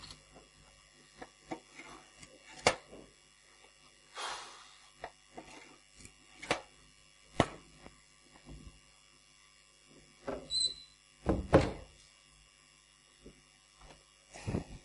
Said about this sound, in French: Et pendant que vous cherchez, je vais faire tourner le ventilateur avant de perdre connaissance.